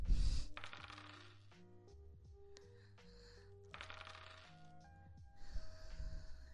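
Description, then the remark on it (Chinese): Dice rattle in a cup in several quick bursts during a dice-guessing drinking game where the loser drinks, a clattering shake that starts and stops, over soft background music. “掷骰子，你应该会吧？”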